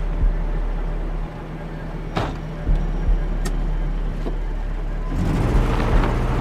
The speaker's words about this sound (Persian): سوار ماشین میشه، شیشه شکسته جلو رو با پشت اسلحه‌اش میریزه پایین، حرکت میکنه.